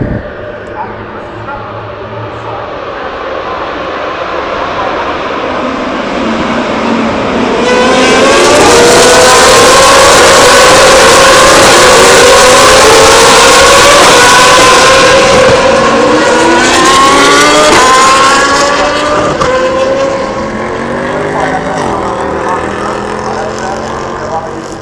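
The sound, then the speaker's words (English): A pack of GP2 race car engines revving and accelerating away from the grid start, heard from the first corner, their overlapping whining pitches climbing, swelling to a loud roar midway, then gradually fading. “You can just hear the engine starting now. They'll be down here in a few seconds.”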